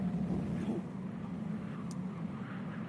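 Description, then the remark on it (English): A stormy wind and sea effect: a steady, low, roaring rumble of wind and surging water that holds at a constant loudness throughout, with no separate crashes standing out and no voices. “The wind's picking up again.”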